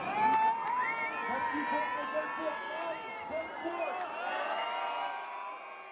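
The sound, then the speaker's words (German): A dense concert crowd filling a hall screams and cheers nonstop as the performers come on stage, many high overlapping voices whooping together at a steady, loud level for the whole stretch, without any single speaker standing out. “Der ganze Raum schreit und freut sich.”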